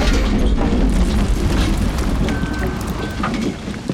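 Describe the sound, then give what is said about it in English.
A load of 100 million donuts is dumped out of a backed-up truck on a game show, pouring in a steady, heavy rumbling cascade with dense soft pattering, lasting about four seconds and easing slightly at the end. “All right, dump the donuts.”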